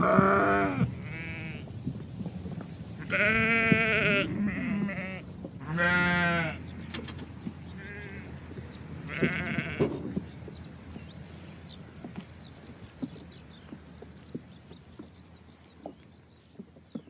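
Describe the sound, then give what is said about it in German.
Several sheep bleat in a loose overlapping chorus, loud at first, with calls thinning out later over faint background ambience and occasional chirps. “Schafe sind doch schön.”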